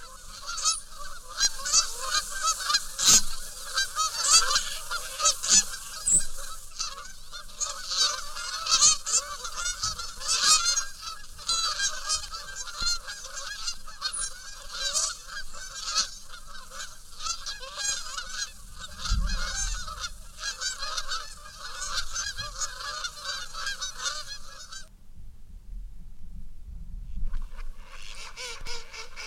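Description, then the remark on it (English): A dense chorus of Canada geese honking continuously as they fly overhead in V formation near Lake Matamuskeet in North Carolina, many calls overlapping in a loud, raucous flock sound that fades out briefly near the end before resuming. “Canada geese are the best known of the North American wild geese, honking as they fly overhead in V formation.”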